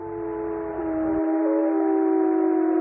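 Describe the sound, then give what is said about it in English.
Wild wolves gathered around a carcass howl in a long, smooth, sustained wail, several steady tones overlapping and gently gliding in pitch, with no talking. “And if we're quiet, we can actually maybe hear them howling.”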